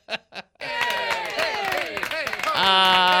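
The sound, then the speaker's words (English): A golf clap: two quick, soft hand claps, followed right away by a loud stretch of overlapping voices and chuckling that ends on a steady, held tone. “So that's kind of my golf clap. Ready? It's a golf clap.”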